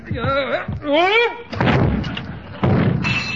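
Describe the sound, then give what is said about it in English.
A strained, wavering voice grunts briefly while lifting a statue bust of Caesar back onto its pedestal, then the bust crashes to the floor with a loud thud, followed moments later by a second booming impact. “Set Caesar up in the next alley. Mr. Conklin's got another shot coming.”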